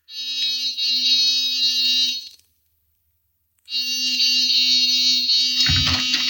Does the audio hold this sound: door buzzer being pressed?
yes